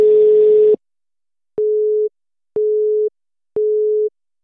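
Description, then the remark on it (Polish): A telephone busy signal heard while trying to call Krzysztof Apostolidis, chairman of the management board of Fabryka Biznesu: a short, buzzy opening tone, then three steady low-pitched beeps, each about half a second long, repeating at even intervals with silence between and no voices. “Dziś próbowaliśmy połączyć się z prezesem zarządu Fabryki Biznesu, Krzysztofem Apostolidisem.”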